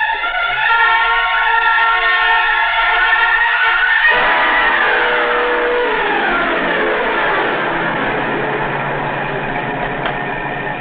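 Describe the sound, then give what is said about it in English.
A car engine roars loudly and steadily, its pitch climbing and shifting as it accelerates hard down an empty stretch of road, closing up on another car, with a sudden gear change partway through and no voices. “Well, here's a good stretch of road. Not another car inside. Move up on him now? Yeah, step on it.”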